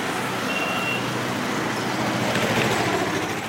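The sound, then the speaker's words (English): Dense city traffic in Dhaka, Bangladesh, rumbles steadily, with engines of trucks and buses droning together, a brief high electronic beep near the start, and no break in the continuous roadway noise. “In Dhaka, the traffic is satanic in its congestion, but new expressways are being put up, and Japan is helping build and finance an elevated metro system.”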